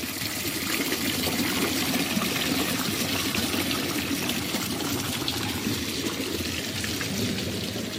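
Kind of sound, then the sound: nature, water trickling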